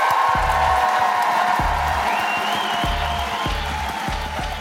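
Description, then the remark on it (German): An audience applauds and cheers for the man who hosted the evening, a dense, steady wash of clapping that stays loud for the whole stretch, with a regular thumping beat running underneath. “Bitte einmal 10, 11, 12 Punkte Applaus, bitte”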